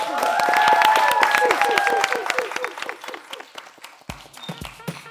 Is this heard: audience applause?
yes